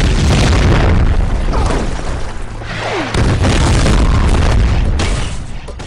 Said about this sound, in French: Il fait exploser un camion en tirant dessus. Avec une balle, Rambo fait exploser un camion.